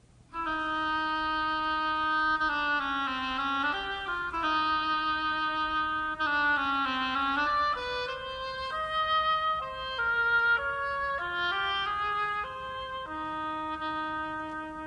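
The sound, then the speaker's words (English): A solo oboe plays a slow, reedy melody depicting a duck, with sustained notes that bend and step between pitches, steady and fairly loud throughout with no voices. “And what is this oboe describing?”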